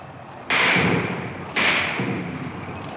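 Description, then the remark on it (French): Two loud, sharp impacts about a second apart as machine-gun bullets fired from a tank smack into a wall, each leaving a reverberant, rumbling tail over a noisy background. “Il tire à la mitrailleuse, vous entendez les balles qui claquent contre le mur.”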